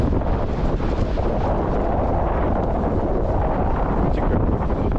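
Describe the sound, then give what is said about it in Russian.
Strong wind roars steadily across the microphone at a sandy seashore, a dense, constant low rumble with buffeting gusts and no voices. “Кто здесь ветер такой идет?”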